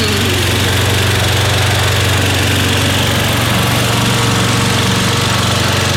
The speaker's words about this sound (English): That's a riding lawnmower.